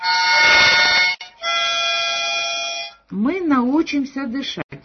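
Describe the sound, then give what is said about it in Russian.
Two long, buzzy harmonica chords, one blown and then one drawn, each held steady for over a second as a harmonica breathing exercise for people with breathing problems, followed by a voice with gliding, melodic pitch. “Эти упражнения с губной гармошкой очень полезны всем, у кого есть проблемы с дыханием.”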